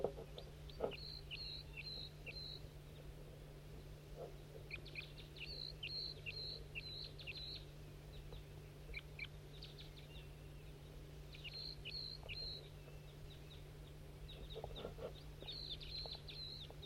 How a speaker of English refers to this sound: Wild birds. Three wild birds joining that male that's singing in a tree. No, there's a fourth. There must be five up in this tree right above him.